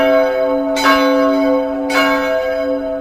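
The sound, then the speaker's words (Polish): A church bell tolls with slow, heavy strokes about a second apart, calling the faithful to services, each strike ringing out with a rich, lingering hum that fills the space between hits. No voices are present. “Smutno brzmią nawet dzwony zwołujące wiernych na nabożeństwa.”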